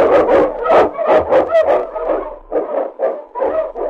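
husky lead dog barking

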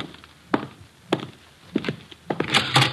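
door being opened

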